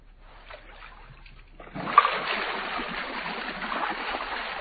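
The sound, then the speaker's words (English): A whirlpool bath switches on after a short quiet stretch, its water churning and bubbling in a steady, dense rush that carries on at a moderate level until the end. “It's a whirlpool bath, sir.”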